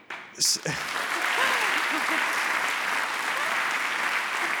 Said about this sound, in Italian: Applausi per lui